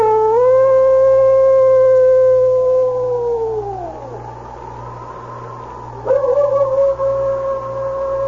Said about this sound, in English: It was then that he threw back his head, and a long howl broke the stillness.